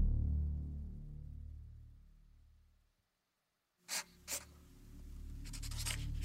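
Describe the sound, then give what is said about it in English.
A pencil scratches across a sketch pad in two short, brisk strokes as a woman draws at night by moonlight, then keeps going in a softer, quick flurry of scribbling, over a low background hum. “He awoke to the sound of scratching on paper.”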